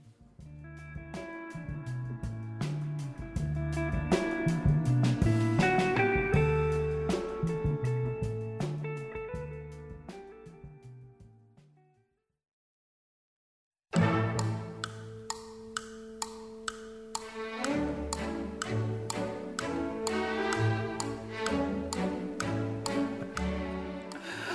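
An orchestral instrumental tune with a steady woodblock-like ticking beat, fading out to a brief silence before resuming with sharp, evenly spaced clock-like ticks over the melody.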